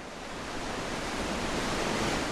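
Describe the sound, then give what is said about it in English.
Steady, dense roar of surf and harsh wind along the sparsely settled coastline of Minami Sanriku, Japan, a broad wash of noise that swells slightly louder toward the end, with no voices. “Harsh winds and waves lash Minami Sanriku's sparsely settled coastline.”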